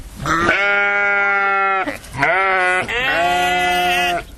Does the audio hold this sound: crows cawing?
no